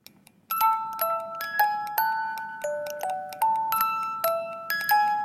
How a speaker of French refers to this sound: C'est une toute petite boîte à musique et qui va faire ça? Vous me dites si vous reconnaissez l'air.